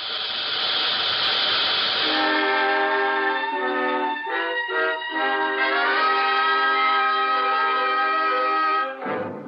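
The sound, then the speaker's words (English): A loud, continuous sound effect of a train wreck: a hissing roar gives way to a sustained, shrill metallic screech that wavers in pitch before cutting off abruptly near the end. No one speaks. “He arrived as the last of the injured were being removed from the splintered coaches.”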